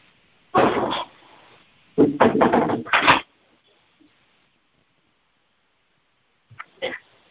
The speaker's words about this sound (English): So I'll just close the door so that they will not disturb me.